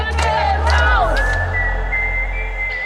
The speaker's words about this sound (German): Das ist ihr Gemeindehaus, ihr Mittelpunkt des Ortes sozusagen. Und die haben einen Sprechchor angestimmt und schreien Wölke raus.